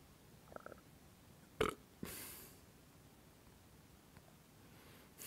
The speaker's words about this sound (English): Don't know if you heard it online, but just when I relaxed my back, a little burp came out. Just something which was stuck there and now is released.